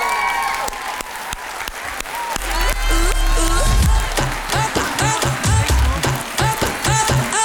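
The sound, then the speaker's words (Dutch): Thunderous applause from a large standing audience for a retiring woman, a dense, steady roar of clapping that keeps going throughout, with music starting up underneath partway through. “Een daverend applaus voor mevrouw”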